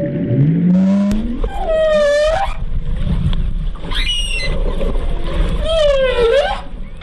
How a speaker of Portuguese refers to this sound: O que você está ouvindo não é um efeito sonoro. É o registro real de uma mãe baleia jubarte se comunicando com o filhote nas águas do Espírito Santo. O som mais grave é da mãe, o mais agudo do filhote. Uma conversa que acontece debaixo d'água